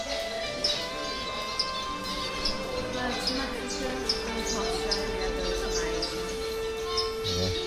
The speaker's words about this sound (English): Okay. I'm recording them. What birds are they? Finches?